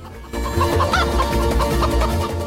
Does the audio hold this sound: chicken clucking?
yes